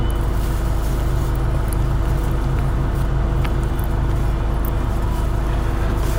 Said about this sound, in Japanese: ちょっとまだ出発しませんね。ちょっとバスの方が早く来たったみたいです、時刻よりも。だからここで、調整をしているようです。時間調整中です。